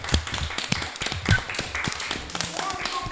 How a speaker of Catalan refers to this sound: Un aplaudiment, això és fantàstic, un aplaudiment per vosaltres.